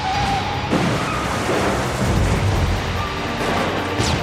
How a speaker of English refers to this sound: Unable to stop, he explodes through the metal guardrail and smashes headlong into a towering 80-foot light pole. The pole snaps in two. 1,000 pounds of metal comes crashing down to earth, flattening the car.